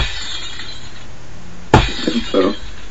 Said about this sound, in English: I'm going to reach over here and get this thing, man. Because if you take this Y2K bug and you drop him, listen to this. Hear the glass break?